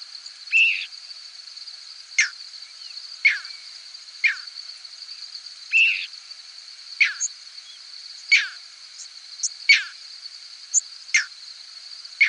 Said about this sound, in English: This clip is from a 6-hour recording of squeaks, whistles, and peeps from thousands of birds passing over a hayfield in central New York State. You'll hear a few crickets, too.